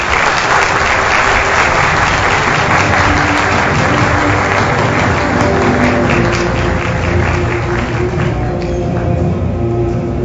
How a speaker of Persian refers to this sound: خواهش میکنم تشویقشون بکنم.